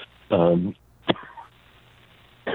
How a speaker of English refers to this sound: Talk about that cough.